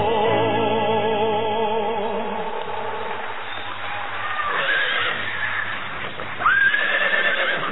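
A horse whinnies loudly in a long, quavering neigh, with hooves clip-clopping steadily underneath and a brief high squeal near the end. No one speaks.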